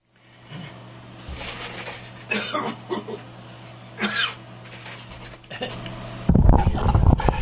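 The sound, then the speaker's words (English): A person coughs and heaves in several separate bursts, spaced a second or two apart, over a steady low hum; a louder, rough rumbling noise takes over near the end. “No, I have not been coughing and heaving the whole time that you were listening to that.”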